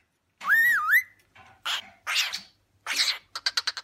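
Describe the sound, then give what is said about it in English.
A pet parrot, one of three kept in a Hertfordshire home (two cockatiels and a green-cheeked conure), lets out a bright, wavering whistle that loops up and down, then a few rough squawky chirps, ending in a quick burst of five sharp chirps. No talking. “I have three lovely parrots. I've got two cockatiel brothers called Chip and Fish, and I have a green-cheeked conure, which is another type of parrot called Pickles.”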